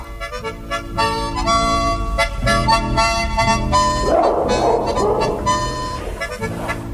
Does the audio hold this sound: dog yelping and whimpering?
yes